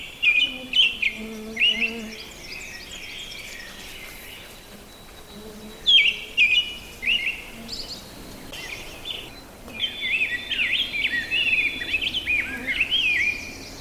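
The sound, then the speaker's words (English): Two songbirds sing together outdoors: a rose-breasted grosbeak's rich, rapid warbling phrases come in bursts, overlapping with an American robin's caroling notes, with faint insects and other birds in the background. “Trying to sing also with him is a robin, which I think is very musical too, but it's said to be less musical than the grosbeak.”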